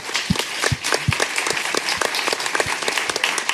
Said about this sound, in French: Maintenant, on peut applaudir Fibre Tigre. Merci.